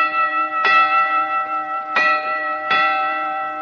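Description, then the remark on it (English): A bell, rung for a hearing test, rings out three times at uneven intervals, each strike bright and resonant, its tones lingering and overlapping into a steady hum between strokes; no one speaks. “Now, tell me how many bells you hear.”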